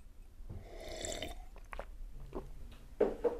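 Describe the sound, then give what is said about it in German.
Someone slurps from a teacup: a drawn-out wet sucking sound, then a few shorter sips and liquid smacks, fairly quiet, with no talking. “Und jetzt hört er plötzlich von hinten, wie jemand an einer Teetasse schlürft.”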